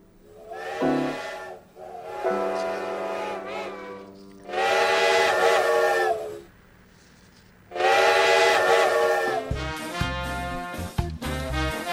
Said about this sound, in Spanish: La bocina de mi tren. Hay trenes en... Eso. Es el silbato. ¿Ese silbato?